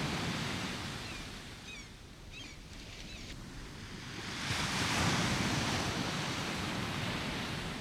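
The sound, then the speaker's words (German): Ocean waves wash steadily onto a beach, swelling into a louder surge of surf partway through. Faint bird calls sound briefly early on, and no one speaks. “Du läufst langsam den Strand entlang und lauschst den Wellen.”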